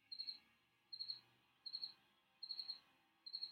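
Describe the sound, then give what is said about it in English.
A cricket in a garage chirps in steady, evenly spaced bursts, five pulses of high-pitched trilling, clear against a quiet background with no talking. “And right on cue, my garage cricket is talking to me.”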